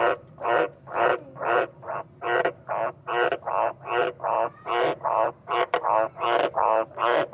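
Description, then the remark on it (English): A frog croaks steadily in a fast, regular series of short, harsh calls, about two per second, loud with no pauses across the stretch. “That's actually a frog croaking.”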